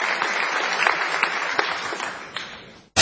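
Audience applause for a tango singer on the radio show La Venganza Será Terrible, a dense, steady wash of many hands clapping that gradually fades out, then cuts abruptly to a brief burst of different sound at the end.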